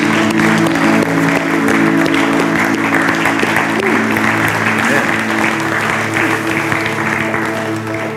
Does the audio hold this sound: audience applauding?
yes